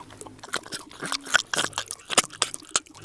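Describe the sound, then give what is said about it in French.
Chonchon, a 6-year-old pet pig, eats yogurt from a spoon with wet, smacking chewing and slurping sounds in quick irregular bursts, punctuated by a few sharp clicks of the spoon, with no talking. “Vous allez voir comment un cochon mange le yaourt à la cuillère.”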